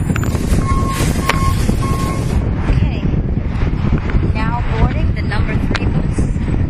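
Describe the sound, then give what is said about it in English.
A number 3 local city bus, air conditioned, pulls up with a loud, steady engine rumble and a few short electronic beeps early on, wind buffeting the microphone and faint voices in the background. “There's a bus. Oh my gosh, and it's a 3.”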